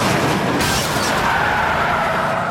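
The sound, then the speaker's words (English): On an open road, a police car performs a PIT maneuver, ramming a suspect's Cadillac a second time, harder: a loud impact over steady roaring engine and scraping road noise, with no one speaking. “Before the crook can gun his car to full power, one of the units pits him again, harder.”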